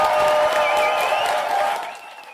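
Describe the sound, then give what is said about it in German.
A crowd of over 100 spectators filling a hall at a poetry slam in the Alter Schlachthof in Lingen applauds and cheers loudly, with dense clapping, a few whistles and voices rising over it, before the noise thins and fades toward the end. “So bombastisch war die Stimmung letzten Donnerstag beim Poetry Slam im Alten Schlachthof.”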